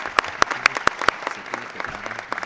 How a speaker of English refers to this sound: I would call upon the people in the room to please give a warm round of applause.